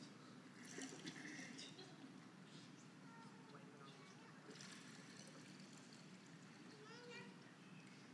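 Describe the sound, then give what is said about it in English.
Water is poured into a glass with a steady trickle lasting several seconds, its gurgling texture shifting slightly as the glass fills, with faint background murmur. “Give me 1 second. I need more water.”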